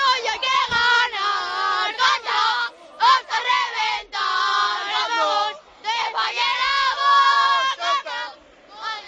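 Thousands of fans gathered at the parking entrance of Estadio El Molinón in Gijón chant loudly in sustained, rhythmic bursts of "sí se puede" and "mucho Betis", voices blending into a dense roar, with brief pauses between chant phrases.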